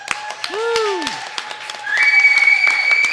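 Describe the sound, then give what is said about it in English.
An audience claps in a scattered, sharp burst that grows denser toward the end, with a swooping whistle-like tone and a steady high ringing note running over the applause. “That claps for you,”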